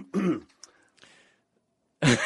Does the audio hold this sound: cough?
yes